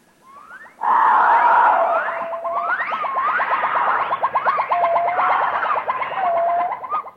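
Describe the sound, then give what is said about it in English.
Monkeys in a forest call loudly and continuously for several seconds, mixing rising whooping cries with fast, repeated chattering notes, with no one talking. “And the monkeys?”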